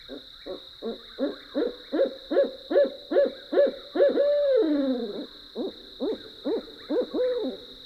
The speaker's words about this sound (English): Barred owls, hooting in the dark of the night.